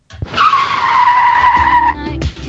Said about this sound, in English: I heard a song and then a crash of a car.